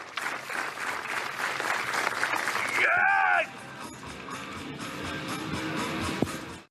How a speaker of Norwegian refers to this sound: Jo, men det, nå skjønte jeg at det var applaus. Jeg forstod ikke det helt sikkert.